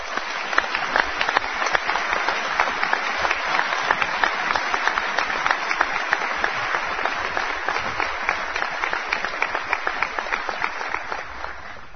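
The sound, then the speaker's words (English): Sustained audience applause for the Northwest Leadership Team, a dense steady patter of many hands clapping for about twelve seconds at an even, fairly loud level, with no voices over it. “The Northwest Leadership Team, give them a round of applause, please.”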